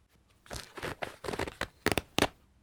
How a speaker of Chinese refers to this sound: 下面都这么硬了，把拉链拉掉吧，我想看看它到底有多大。